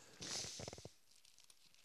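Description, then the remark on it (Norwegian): Papers, old love letters taken out of a Bible, rustle and shuffle in a brief, crisp burst of crinkling handling noise lasting under a second, followed by quiet with a few faint ticks. “Er det mine papir, så er det dine,”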